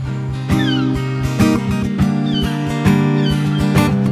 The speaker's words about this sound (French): Avec les mouettes.